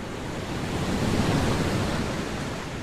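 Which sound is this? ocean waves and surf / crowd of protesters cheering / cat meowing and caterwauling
ocean waves and surf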